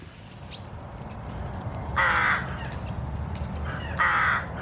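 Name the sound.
rooks cawing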